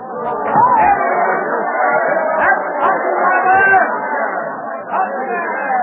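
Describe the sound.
A crowd of people in Boston chatters below an open window, many overlapping voices forming a steady, dense murmur with occasional louder exclamations rising out of the babble throughout.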